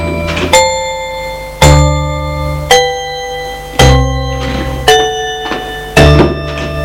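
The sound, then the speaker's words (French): An elevator arrival chime rings out six times at a steady pace, about once a second, each bright metallic tone striking sharply and then fading into a sustained ring. “Ascenseur.”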